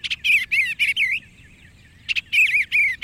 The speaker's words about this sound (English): What's it like to go bird watching if you can't see the birds? Close your eyes for a moment and listen.